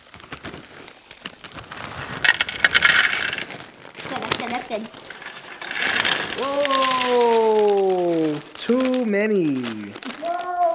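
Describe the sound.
Crinkly plastic snack bags rustle in bursts as the pretzel bag is opened for making cookies, then a loose rattling patter as too many pretzels pour into a bowl, while a high voice lets out long, wavering exclamations over the pouring.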